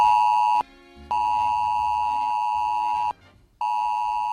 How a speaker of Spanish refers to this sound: El pasado 3 de septiembre, a las 14 horas y 26 minutos, todos los teléfonos móviles que se encontraban en la Comunidad de Madrid recibieron una alerta de Protección Civil con este inusual y alarmante sonido.